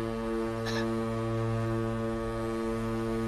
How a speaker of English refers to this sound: Saved by the foghorn.